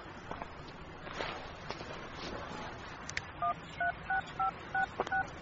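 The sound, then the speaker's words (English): Six short, steady telephone keypad beeps, each a two-toned electronic tone, dialed in an even rhythm after a few seconds of faint shuffling and rustling noise, as someone phones to cancel an appointment. “Are you calling an ambulance?”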